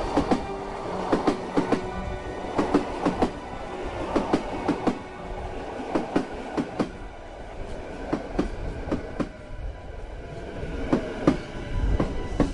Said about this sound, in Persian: هر لحظه هم یه قطار جدید میرسه، مثل این.